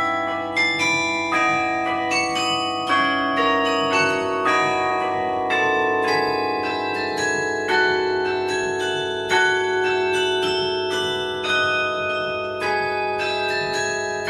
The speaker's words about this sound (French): Parce que vous nous dites que le carillon, c'est un instrument vraiment à part entière. Jouer du carillon, c'est un acte musical.